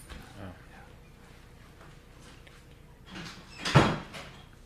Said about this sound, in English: Let me shut this door. There's people next door really loud. I got to get that door shut.